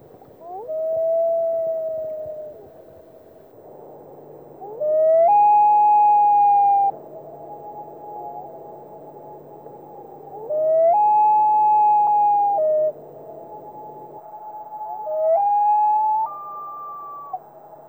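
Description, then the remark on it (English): A common loon's wail rises in long, mournful notes, each one climbing and then holding steady. Four drawn-out calls come at intervals and carry clearly over a faint, steady background hum. “Finally, as a help in identifying loon calls in the field, we listen to each of the different calls and their variations. First, the whale.”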